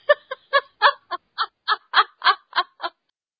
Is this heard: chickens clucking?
yes